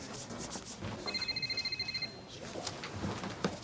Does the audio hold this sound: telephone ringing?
yes